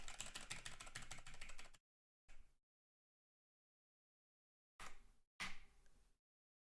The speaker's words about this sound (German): Einfach tippen. Okay, ich tippe.